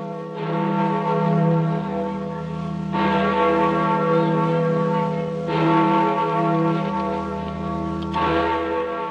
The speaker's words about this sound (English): That's the Freedom Bell, heard round the world. It's a rallying sound, but sound isn't enough.